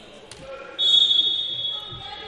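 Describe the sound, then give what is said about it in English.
A player slaps a basketball once before inbounding it under her team's own basket in a women's basketball game, a sharp, crisp smack near the start, followed by a rising wash of arena crowd noise with a steady high-pitched tone above it. “Slaps the ball, gets everybody moving. The universal sign to get people moving in basketball.”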